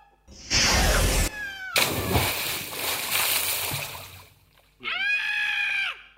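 A sudden loud splash and a longer stretch of rushing, sloshing water as a golden eagle snatches an animal out of the water with a strong jerk and flies off, followed after a brief pause by a shrill, screeching bird cry lasting about a second.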